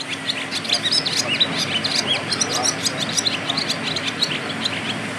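A swallow twitters continuously on the rooftop of the National Car Test Centre in Deansgrange, South Dublin, on 1 May 2021. Rapid high chirps and warbling trills tumble over one another throughout, with a steady low hum and faint background noise underneath.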